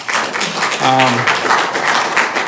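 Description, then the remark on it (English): Audience applause after a public speaker's comments on school district issues, a dense, steady wash of many hands clapping at once for the full stretch, with a brief voice rising out of it partway through. “I sympathize with those who are clapping, but we have a general rule that we don't do that here.”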